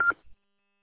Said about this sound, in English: you got a Roger beep turned on that mobile. Keep it up there. I was wondering, I kept hearing this beep, and I'll go in and see if I can get that turned off.